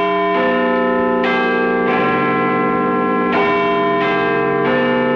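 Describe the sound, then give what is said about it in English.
The bells of Big Ben, the 135-year-old clock tower of the British Parliament in London, chiming a slow melodic sequence of six loud struck notes, each tone ringing on and overlapping the next, with no voices present. “The British Parliament's Big Ben clock tower is starting to show a slight tilt.”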